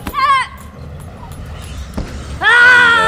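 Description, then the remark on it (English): Two loud, sharp, deep guttural martial arts yells ring out, a short one at the start and a longer, sustained one at the end, separated by a quiet stretch. “a deep guttural yell sort of is going to put you off, and it also gives confidence to the person using it”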